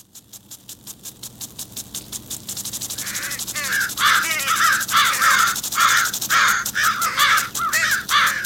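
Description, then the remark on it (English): A large flock of about 100 crows overhead caws loudly and repeatedly, the harsh calls overlapping in a dense, rhythmic chorus that swells after a few seconds and stays insistent, with no voices. “What's with the crows?”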